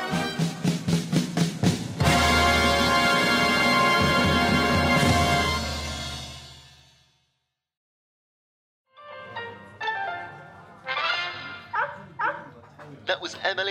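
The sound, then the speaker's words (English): Music plays and fades out, then after a short pause a puppy named Bruno, doing ballroom dog dancing, lets out a quick series of high-pitched yips and whimpers in uneven bursts. “Puppy Bruno showing us that even in these uncertain times, there's always a spare minute or two for ballroom dog dancing.”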